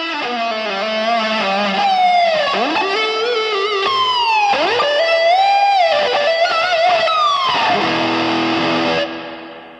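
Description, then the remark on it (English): Sustained, distorted electric guitar notes played with an EBow directly over the hot spot, holding steady volume while sliding smoothly up and down in pitch, loud with no talking. “Notice the volume doesn't change when you move the ebow to and from the hot spot, so you can sustain, arpeggiate, and use the energy slide directly over the hot spot with little change in volume as you switch techniques.”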